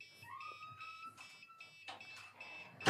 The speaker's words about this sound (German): Das ist die Fernbedienung von Kevins Drohne anscheinend. Die lag draußen vor der Tür und hat es angefangen zu piepsen.